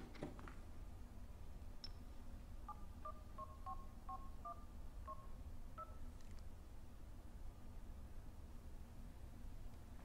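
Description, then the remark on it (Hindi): A phone number is dialed: a quick run of about ten short, evenly spaced keypad beeps over a steady background hiss, with no voices. “तुम एक फोन सबा को करो, देखो पहुंचे कि नहीं।”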